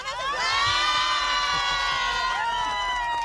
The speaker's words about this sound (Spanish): Pero no oí, a ver, el aplausómetro.